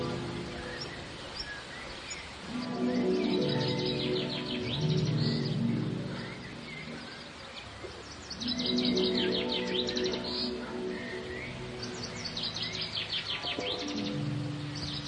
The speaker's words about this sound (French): Tous les oiseaux aux couleurs chatoyantes de l'Orient vinrent leur tenir compagnie. Ils chantaient au Fils de Dieu un cantique de louange et de remerciement.